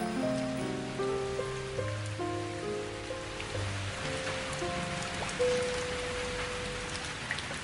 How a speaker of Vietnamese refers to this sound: Các bạn có nghe thấy tiếng mưa đang rơi không?